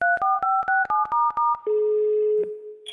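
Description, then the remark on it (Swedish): A rapid series of about eight short touch-tone beeps as a phone number is dialed to call Max, followed by a steady, clear ringing tone on the line. No voices. “Mm, nu ringer vi Max och frågar.”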